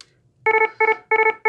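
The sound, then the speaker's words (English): A medical alarm attention tone, meant for a problem related to a patient's medication: loud, mid-pitched electronic beeps in repeating groups of three quick pulses, each group separated by a brief gap, sounding alone with no voices. “What you might do is you would announce an alarm by using something like this.”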